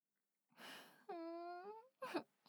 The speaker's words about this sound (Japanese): そうやって情けない声で泣くことしかできないもんね。